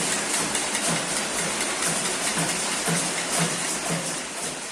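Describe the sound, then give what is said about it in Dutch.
A dense, continuous wash of clattering as many people in Myanmar bang hard on pans from inside their homes in protest, a steady hissing din with faint rhythmic knocks running through it and no voices. “En wat heel tekenend is voor deze protesten, dat zijn de geluiden die uit de woonkamers van mensen zelf komen, waarin ze heel hard op pannen gaan slaan.”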